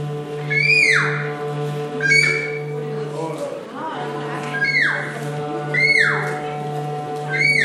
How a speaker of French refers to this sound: Que serait notre belle ville sans ses mouettes et ses goélands ?